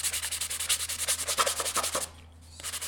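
Rhythmic sanding of a mounted tree core in a lab, with steady back-and-forth abrasive strokes, about three per second, stopping briefly near the end before resuming; a low hum runs underneath and no one speaks.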